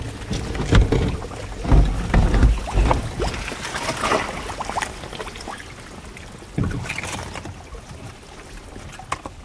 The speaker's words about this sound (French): Ce qui est très impressionnant, c'est que la glace, en fait, ça fait un bruit de bulles. Toutes les petites bulles d'air qui sont emprisonnées dans la glace fondent et se libèrent, et ça fait comme une espèce de petite effervescence.